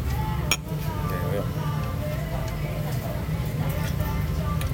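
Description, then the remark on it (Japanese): Glasses clink together in a brief toast near the start, a quick bright tap or two, followed by faint ticks over a steady low hum and murmuring background noise. “じゃあ今年目標は、お互いジャズで常連になる。はい、乾杯。”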